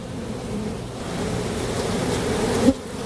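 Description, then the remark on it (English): A dense, droning swarm of agitated honeybees buzzes steadily at a beehive being inspected in summer, the hum rising slightly in intensity toward the end with a brief sharp spike as a good number of bees are swept off a frame. No voices. “When you hear the bees get angry, that was the moment when he swept a good number of the bees off the frame that he was looking at.”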